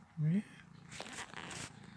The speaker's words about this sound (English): Oh, you're gorgeous, aren't you? Yes. Oh, you're a good cat. Come on, lick my nose. Lick my nose and then bite it. Make me scream.